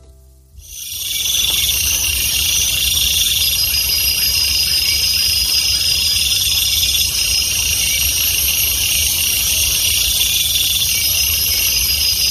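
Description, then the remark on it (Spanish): A dense, unbroken chorus of crickets of several different species, with some cicadas, trills at a high pitch, several overlapping calls forming a steady shimmering wall of sound over a faint low rumble, with no voices. “Aquí yo de momento solo escucho grillos.”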